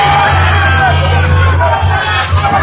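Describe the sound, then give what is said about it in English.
A dense crowd shouts and yells together in a continuous loud roar during a man's arrest, people screaming "let her go", voices overlapping into a chaotic wall of sound with a steady low hum underneath. “And then I don't know if y'all can hear, but in the background, they're all screaming. They're saying, let her go.”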